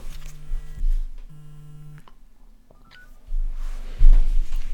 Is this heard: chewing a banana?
no